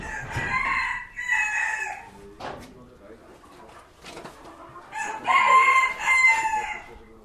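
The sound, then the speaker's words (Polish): Roosters crow loudly and repeatedly in harmonic bursts, with chickens clucking in between and a murmur of voices in the background, like a busy farmyard. “tak samo można i z kurami.”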